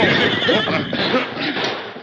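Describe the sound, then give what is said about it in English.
A powerful stallion whinnies loudly, one long shrill neigh that wavers and trembles for about two seconds, with no voices. “Then as he heard the thundering hoofs of the powerful stallion and the wiry paint approaching”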